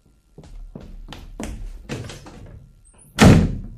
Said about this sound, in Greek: Ακούστε πως κλείνει την πόρτα. Κοντεύει να τον κρεμίσει το σπίτι.